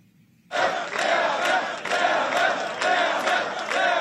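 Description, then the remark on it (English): A crowd of Freedom Party supporters in Austria erupts into loud, sustained cheering at the initial election results after a brief quiet moment, with whoops and shouts rising in waves over a dense roar of many voices. “Supporters of the Freedom Party celebrate the initial election results.”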